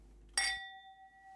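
A single bright clink of glasses touching in a toast, followed by a clear ringing tone that lingers and slowly fades with no talking.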